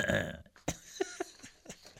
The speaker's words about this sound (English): That was me clearing my voice. I went, I don't know if you heard that.